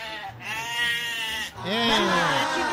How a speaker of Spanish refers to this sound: Y como bien se ha escuchado, vamos a empezar hablando de las cabras.